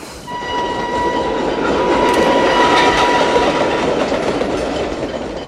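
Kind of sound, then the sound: vehicle, train arriving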